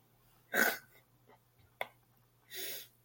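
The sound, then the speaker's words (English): Two rough, breathy snoring snorts about two seconds apart, with a short sharp click between them. Fairly loud against near silence, and no one speaks. “No, honestly though, your snore kind of resembled your fart yesterday.”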